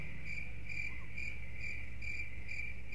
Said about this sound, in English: But back in 1992, there was a guy that decided to record the sound of crickets. And for whatever reason, he decided to slow it way down and to match the sound of a human lifespan.